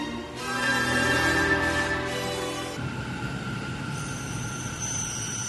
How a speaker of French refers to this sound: Ah vraiment, il y a du vent dehors.